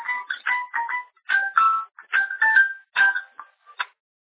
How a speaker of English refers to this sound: So, I'm sorry, I was hearing a ringtone